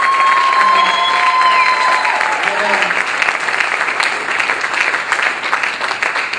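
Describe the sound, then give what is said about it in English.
A Christian audience applauds and cheers loudly to welcome Evangelist Mark Francine, with steady dense clapping and rising whoops and shouts that stay at full volume across the whole stretch. “I want you to give a big Christian family cheers.”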